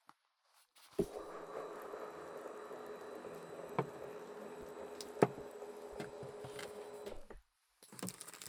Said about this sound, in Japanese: 椅子を倒しますよ。